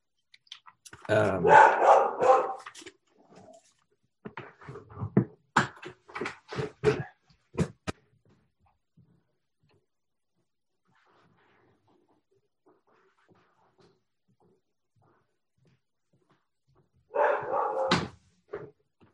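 A dog that has escaped barks and whimpers in loud bursts, interrupted by sharp knocking or scratching sounds, then falls quiet for a long stretch before one final short outburst.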